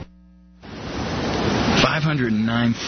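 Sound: thunderstorm with rain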